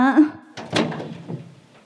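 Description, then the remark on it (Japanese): A brief voice sounds at the start, then a door is unlocked with a couple of sharp clicks and a rattling clatter as it opens, trailing off into a softer shuffle. “やっと鍵を開けてくれた。”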